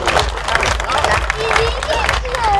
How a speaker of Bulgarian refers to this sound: Моля, освен всичко, това са нашите кандидати. Всичките са достойни хора. И моля ви да ги подкрепите с едни бурни аплодисменти.